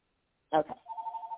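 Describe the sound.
A telephone keeps ringing during a sermon, with a steady, mid-pitched electronic trill that pulses rapidly and evenly. It follows a brief, rich voice-like burst at the start.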